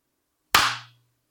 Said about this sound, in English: Okay, let's go ahead and sync up real quick. Let's clap at 36. All right.